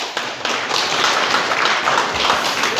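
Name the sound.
audience clapping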